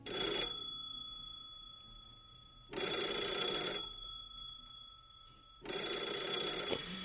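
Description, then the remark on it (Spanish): An old landline telephone bell rings in three long, loud bursts about three seconds apart, each with a brief ringing decay between them. No voices are heard. “Es un sonido que no tiene que ver con los teléfonos móviles actuales, un sonido así.”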